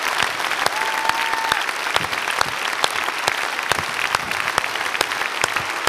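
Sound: audience clapping applause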